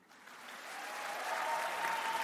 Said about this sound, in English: But instead of booing, the crowd cheered. The show went on.